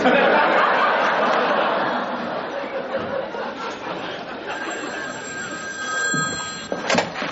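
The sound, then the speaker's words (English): A telephone bell rings amid busy chatter and some chuckling in the background, the ringing tones clearer toward the end. “Excuse me, sir. Phone for you.”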